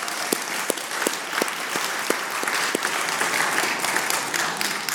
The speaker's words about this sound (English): Let's give God a hand of applause. Hallelujah.